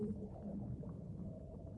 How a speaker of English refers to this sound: Plunging deeper, hear the distant calls of whales. Whales are gentle, peaceful animals.